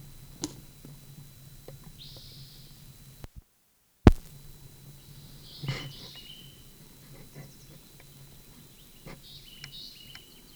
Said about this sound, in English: Junko. Toward the Moline, the draw west of the Moline fence. Bird near the dump.